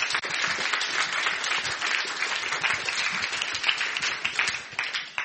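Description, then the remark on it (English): An audience applauds the Costa staff steadily for about five seconds, a dense wash of many hands clapping at once, holding an even level throughout with no talking. “Give them a round of applause for us.”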